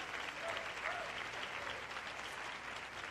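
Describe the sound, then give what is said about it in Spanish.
Sustained applause from an audience, given to the Lord for brothers being introduced, a dense steady wash of clapping hands that holds at an even, loud level throughout with no talking over it. “Un aplauso al Señor por ellos.”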